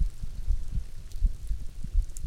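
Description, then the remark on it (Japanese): A muffled heartbeat thumps steadily in low double beats, with a faint soft hiss in the background and no voices. “ドクドクドクドク”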